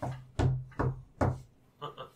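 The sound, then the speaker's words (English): Three dull, hollow knocks on wood land at an even pace, each with a short resonant ring, followed by a softer, lighter tap. A steady low hum sits underneath. “Knock on this thing. Knock on the no, side.”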